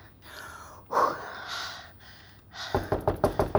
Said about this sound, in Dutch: Ik ga kloppen, hè.